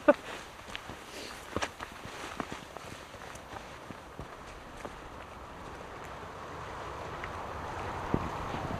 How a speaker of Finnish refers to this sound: mennään läpi puskia ihan niin kuin enemmänkin oltaisiin metsässä, vaikka toi Helsingin kaupunki.